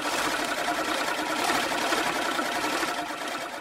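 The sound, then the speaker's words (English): An egg beater whirs steadily in imitation of a lawnmower, a continuous buzzy mechanical drone with a rapid fluttering texture, fairly loud and uninterrupted, with no one talking. “She discovered an egg beater sounds a lot like a lawnmower.”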